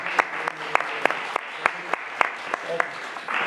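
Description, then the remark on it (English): Applause from a small audience at a hearing, after a nominee passes a 5-0 committee vote: a steady patter of hands with a handful of sharper, louder claps standing out irregularly, continuing for a few seconds. “I appreciate that support and the applause.”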